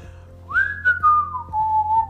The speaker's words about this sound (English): It's kind of fun when you hike to whistle. Do you know how to whistle? Yeah, that's a fun thing to do.